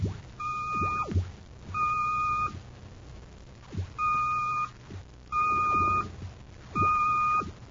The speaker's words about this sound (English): The code signal. It's been picked up repeatedly from Planet X. Planet X? Notice the pattern. It's a constant repetition of 3 dashes. A homing signal for Baccarati's scout ship.